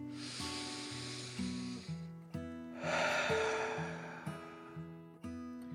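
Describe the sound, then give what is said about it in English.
A deep breath is drawn in and then let out, two long, airy rushes of air over a steady bed of soft background music. “Finally, back in its cozy cave, the dragon took a deep breath in and out.”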